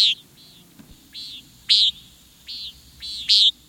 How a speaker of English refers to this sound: This bird sound vividly evokes a warm summer evening. It's the flight call of the common nighthawk. Loping overhead with its long, slender wings at dusk, the nighthawk chases down aerial insects with sudden, choppy shifts of direction.